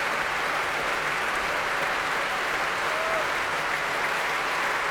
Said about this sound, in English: He's back on the stage. He wants the orchestra to take a bow, but they won't because they are applauding him. They do love him. They won't stand up.